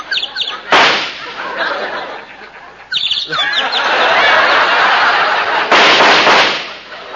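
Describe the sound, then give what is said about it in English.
Two loud, sharp gunshots ring out about five seconds apart, fired to show off shooting at a little bird sitting in a tree, each cutting through a steady bed of chirping birds and background noise. “Yeah, I'll show you some real shooting.”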